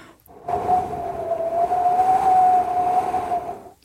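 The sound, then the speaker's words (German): Wind-like whistling imitated by blowing into cupped hands in a studio: a steady, slightly wavering mid-pitched whistle over breathy rushing air, held for about three seconds before cutting off. “Das klingt, als würde hier der Wind durchs Studio pfeifen.”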